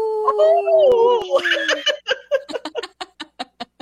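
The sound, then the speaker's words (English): On the radio show Native Roots Radio, a person imitates a wolf howl: a long, wavering voiced tone that slides downward for almost two seconds, then dissolves into a run of rhythmic, breathy, self-conscious laughter. “your wolf howl is great”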